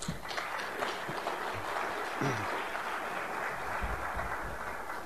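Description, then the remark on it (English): An audience applauds in a steady, dense round of clapping that holds at an even level for several seconds, a broad crackling wash with no voices standing out. “So before I go any further, I really think that you ought to all give yourself a round of applause for the leadership that you provide.”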